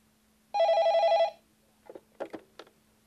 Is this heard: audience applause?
no